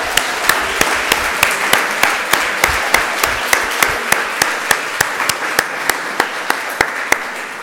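An audience on a French television show applauds a person steadily, with loud, evenly spaced claps beating out a regular rhythm over a continuous wash of crowd clapping, sustained for several seconds.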